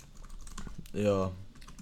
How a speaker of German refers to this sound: Ja, falls im Hintergrund das Tastaturklimpern hört, natürlich hört man das. Wir wollen ja wissen, ihr sollt ja wissen, dass wir was arbeiten.